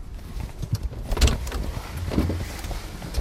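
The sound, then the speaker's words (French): Busy clatter of someone checking a car's engine oil during a stop at a small café: scraping, rustling handling and a few sharp metallic knocks partway through, with no talking. “Je vais vite contrôler l'huile d'ailleurs.”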